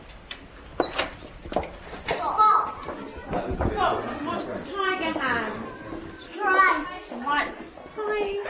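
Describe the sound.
Several young children babble and chatter in high, lively voices, overlapping in bursts of varying loudness, with occasional soft knocks, thumps and chair scraping, heard from the open-plan central corridor of a listed historic school, with snippets of a story being read and another classroom.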